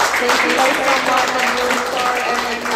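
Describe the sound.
An audience applauds with dense, steady clapping that stays loud for about three seconds, mixed with indistinct voices and cheering underneath.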